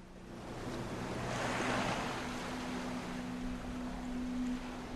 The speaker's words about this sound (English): He now falls face down into the rising water. The foaming waves wash around his motionless body.